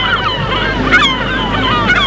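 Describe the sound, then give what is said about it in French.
Seagulls cry repeatedly in overlapping, wavering calls, flying under a grey, cloudy sky above a steady wash of waves breaking on a pebble beach on a cold day, with some wind rumble throughout. “Les mouettes volent sur le ciel nuageux et passent sur les galets et sirènes.”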